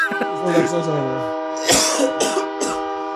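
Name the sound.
passing train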